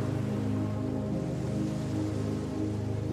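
A steady, continuous wash of ocean surf, a dense rushing roar of breaking waves with no pauses, even in loudness throughout, as young sea turtles make their way through the first waves to the open sea.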